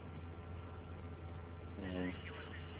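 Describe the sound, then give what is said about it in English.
Shortwave HF radio signal recorded off air onto CD with a simple home setup using a small wire antenna on the roof: a steady, muffled bed of static and hum, with a brief burst of garbled, voice-like tones surfacing near the end before sinking back into the noise. “And I've recorded some signals off air onto CD.”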